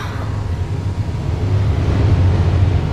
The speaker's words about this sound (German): Und plötzlich hörten sie ein merkwürdiges, polterndes Geräusch.